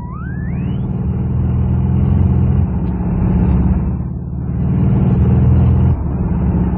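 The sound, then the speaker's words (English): A car engine revs and accelerates hard while giving chase to another car that has just passed, a rising whine in the first second over a steady loud rumble that swells and eases in waves, with no voices. “A car just passed us. In pursuit.”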